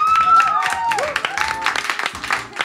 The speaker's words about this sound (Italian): Un applauso al cappellino